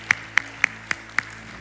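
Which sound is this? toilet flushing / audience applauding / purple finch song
audience applauding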